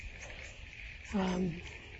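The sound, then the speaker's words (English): At night, a single short frog croak rises out of a steady, high insect-like trill, lasting about a third of a second before the continuous chirring background carries on alone. “Anyway, the frogs are lovely. I'm so glad they're back.”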